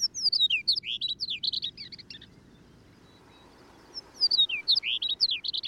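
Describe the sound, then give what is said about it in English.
Two bursts of a longspur's bright, tinkling warbled song, each about two seconds long with a pause between, over a steady low rumble of wind or field noise. “However, if cows are managed properly, they may be able to help longspurs persist.”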